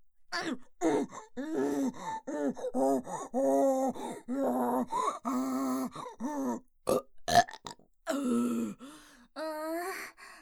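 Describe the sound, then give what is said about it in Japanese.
A loud run of strained, voiced grunts and groans with burps mixed in from someone straining to defecate, repeating in uneven bursts for about ten seconds, with breathy gasps between them and no speech. “あ、ごめん、うんち気張りすぎちゃってついゲップを出しちゃったな。”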